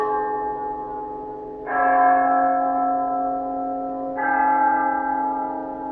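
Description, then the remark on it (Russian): The large bell of St. Mark's Cathedral tolls twice, a few seconds apart. Each deep, resonant strike rings out and hums on in a long sustained decay that overlaps the next, with no voices. “Колокол собора святого Марка.”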